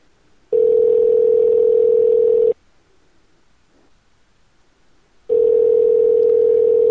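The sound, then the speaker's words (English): A telephone ringback tone sounds late at night as a call to a Denny's restaurant waits to be answered: a steady, loud two-second ring, a pause of nearly three seconds, then the ring starts again, with no voices. “They're open 24 hours. I know, right? So they should pick up the phone.”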